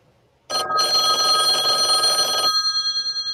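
A telephone rings loudly with a bright, buzzy metallic bell, one sustained burst of about two seconds that cuts off abruptly, leaving faint steady tones fading behind it. No one speaks.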